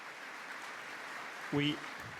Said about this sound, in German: Ein Applaus dafür.